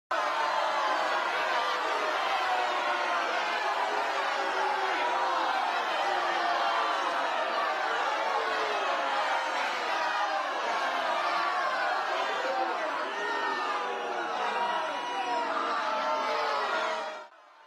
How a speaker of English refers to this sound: No sooner did the high priest and the temple guards see Jesus than they all shouted in a frenzy, "Crucify him! Crucify him!"